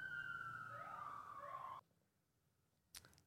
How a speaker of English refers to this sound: We'll let this little siren go by.